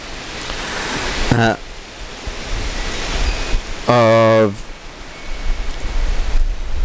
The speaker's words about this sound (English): So can you hear the horrendous wind? I don't know if you can actually listen through all this, mate.